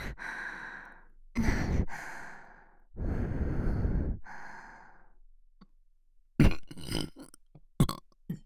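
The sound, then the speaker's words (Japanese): Loud burps with no talking: a short one, then a long drawn-out rumbling burp, followed by a quick cluster of shorter, breathy burps and exhales near the end. “凍らせる気満々なドスケベゲップ”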